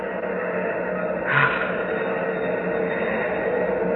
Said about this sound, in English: Hear those rocket engines? Yes. Nearly 1,000,000 pounds of thrust. Oh. They're ripping Pegasus 4 loose from Earth's gravity.